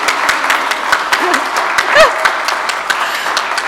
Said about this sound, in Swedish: Det var en applåd på gång där för dramat. Det var faktiskt helt rätt.